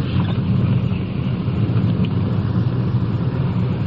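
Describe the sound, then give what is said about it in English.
A car engine hums steadily from inside the vehicle, a constant low rumble with road noise as it rolls along at low speed and pulls into a driveway, loud throughout. “Here we are, pulling into the drive.”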